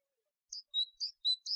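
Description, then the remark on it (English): A small bird chirps five quick, bright notes in a row, clear, with a short silence before the first chirp and no voices. “Where's the bird?”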